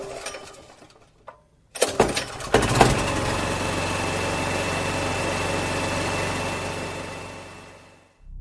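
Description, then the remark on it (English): A small pull-start engine sputters through a few quick bursts, then catches and settles into a loud, steady buzzing run that holds for several seconds before cutting off abruptly. “It still runs like we're just pulling a lawnmower. Yeah, it still sounds the same.”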